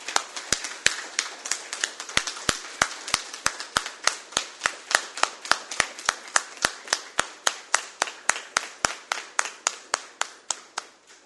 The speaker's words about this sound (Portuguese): Assim, eu queria pedir aos demais vereadores e a todo mundo aqui presente que a gente pudesse destinar ao nosso amigo ainda uma calorosa salva de palmas.